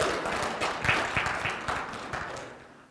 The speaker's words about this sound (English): I kind of noticed the clap wasn't quite the same.